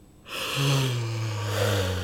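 A single exaggerated, put-on yawn: a breathy intake that slides into a long, low, voiced groan gently falling in pitch, with no other talking.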